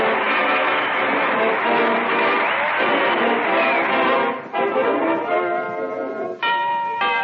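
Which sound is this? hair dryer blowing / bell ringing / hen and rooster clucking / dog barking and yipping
bell ringing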